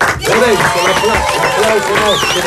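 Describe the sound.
Steady audience applause with crowd voices and cheering mixed in, a dense, continuous wash of clapping that holds at an even, fairly loud level throughout.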